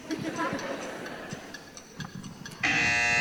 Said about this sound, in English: Beulah the buzzer for those of you old enough to know what I'm talking about